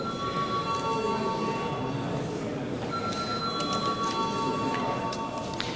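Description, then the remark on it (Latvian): A parliament voting bell rings continuously in a steady, sustained electric tone as deputies are called to vote on a bill in its first reading, holding evenly for several seconds over a low background rumble of murmuring voices. “Lūdzu deputāts balsot par likuma projektu pieņemšanu pirmajā lasījumā, lūdzu zvanu.”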